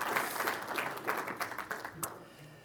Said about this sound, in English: So I want to give her a round of applause for her being here today.